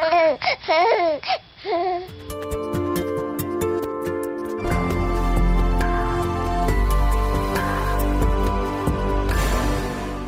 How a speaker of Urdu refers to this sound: جی تو آپ نے وائس آف امریکہ کی رپورٹ سنی بیبی ایپ کے بارے میں, جس کا مقصد یہ ہے کہ جب آپ کا ننا منا بچہ رو رہا ہو تو آپ ایک ایپ کے ذریعے یہ پتہ لگائیں کہ آپ کا بچہ کیوں رو رہا ہے.